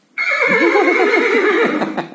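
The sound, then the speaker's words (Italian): A single loud horse whinny sound effect, played by a Google Home Mini as part of a joke, with a shaky, wavering pitch that rises and trembles for about two seconds before trailing off, with no talking over it. “Vediamo un po', l'atteggiamento è molto importante se sei un cavallo.”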